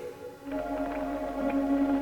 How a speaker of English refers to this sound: I love the creaking. Yeah. Again, not just amazing attention to detail on the sound, not just the sets and the puppets and the models.